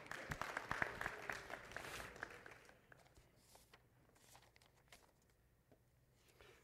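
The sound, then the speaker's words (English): An audience bursts into applause for a man, dense rapid clapping that is loudest in the first two seconds, then thins out to scattered claps and fades to quiet by the end. “Can we clap for him?”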